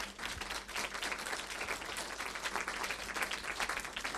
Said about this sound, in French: La prochaine, allez-y, vous pouvez l'applaudir.